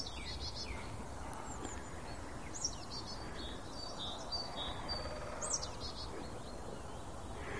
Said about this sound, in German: Ja, die Meise schimpft ein bisschen, weil ich hier rumstehe.